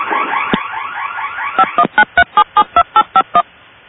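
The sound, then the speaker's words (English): Over a tinny phone line on a group call, an alarm system at 539th Street West sends a rapid, evenly spaced run of about ten electronic touch-tone beeps, following a short stretch of garbled, warbling line noise. “The alarm system at 539th Street West is in the line.”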